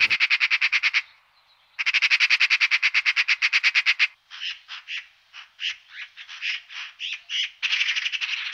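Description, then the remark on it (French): Birds call outdoors while school pupils identify them and tick them off on a record sheet: loud bursts of rapid buzzing trills, then a quick run of varied chirps and squawky notes ending in another trill, with no voices. “Pour l'instant, on coche ce qu'on voit comme oiseau, on entend les sons des oiseaux, et après on les coche sur notre fiche pour savoir quel oiseau il y a.”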